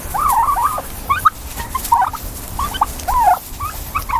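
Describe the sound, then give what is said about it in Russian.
A turkey gobbles in rapid, warbling bursts, several rattling calls in quick succession, moderately loud, with no one talking. “Но это вообще получается самая большая после страуса птица. Может до 40 килограмм доходить вес индюка.”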